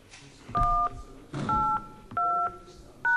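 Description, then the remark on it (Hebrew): Four electronic two-note beeps from a phone keypad as a password is entered on a phone line, evenly spaced as digits are pressed one after another. Each steady tone lasts about a third of a second, and the last one is cut short. “נא הקישו את הסיסמה שלכם ואחר כך סולמית.”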